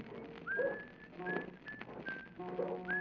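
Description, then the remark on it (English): A person on the deck of a canal boat whistles a string of short, bright notes in a loose repeating pattern, clear, with a softer low warbling tone underneath and no talking, on a foggy morning at the Herkimer Waylock by the towpath. “With this fog, what you got to whistle about?”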